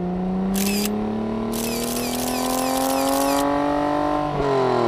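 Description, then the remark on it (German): A loud Formula 1 racing car engine whines steadily higher in pitch as it passes, briefly dropping near the end, while bursts of rapid camera shutter clicks fire over it. No one speaks. “Wenn man ein scharfes Foto von einem besonders schnellen Objekt machen möchte, zum Beispiel von einem Formel-1-Wagen, dann wählt man am besten eine sehr kurze Belichtungszeit.”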